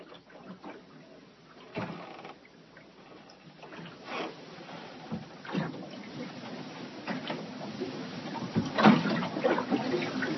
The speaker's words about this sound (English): there was like this 30-mile-an-hour wind. It was, and the boat was pitching around. And it was sloshing, and so I'm just laying in bed, and I just turned on my iPhone recording device for a couple of minutes, and here's what it sounded like.